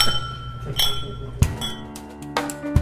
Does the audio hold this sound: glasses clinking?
yes